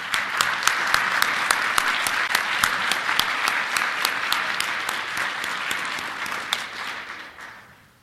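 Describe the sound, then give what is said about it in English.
An audience applauds the team behind DOE, steadily with dense clapping and a few sharper claps standing out, holding loud for several seconds before tapering off toward the end. “We've got a huge group of people behind DOE that are really helping us to make this happen, and I would like to, everybody, give them a round of applause.”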